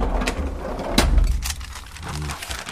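A small door into the Škoda Auto archives at a museum opens with a sharp thunk and a few lighter clicks over a low background rumble, followed by a brief soft hum as people pass through.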